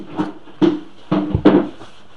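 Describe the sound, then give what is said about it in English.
A few knocks and rattles, then a low, solid thump as a door swings shut, followed by a final bump. No voices are heard. “Of the MS, you know, do you mind closing the door?”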